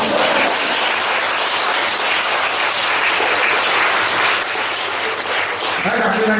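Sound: audience applause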